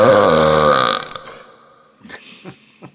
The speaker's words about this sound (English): So yeah, my dad says in Argentina where he grew up, he played football with a guy who could burp louder than a whistle.